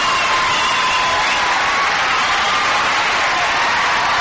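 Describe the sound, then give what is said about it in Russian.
A large crowd at Rhenus stadium gives a loud, sustained ovation for the US president during his address to Europeans at a summit, dense applause mixed with cheering and shouts that hold steady for the whole stretch without a break. “Вот так встречали каждое появление, каждый выход из машины и такие же овации во время обращения к жителям Европы с трибуны стадиона Ренус.”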